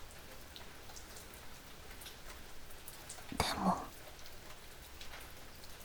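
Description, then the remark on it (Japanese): Steady rain patters down across a hard open surface by a poolside, a soft continuous hiss of drops, with a brief murmured word from a voice partway through. “いつもはほとんど話さないのに、二人でプールサイドで雨宿りなんて。”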